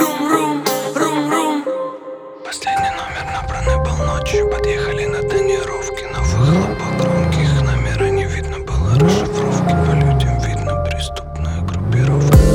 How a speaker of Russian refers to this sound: Подъехали на тонировке, на выхлопах громкие.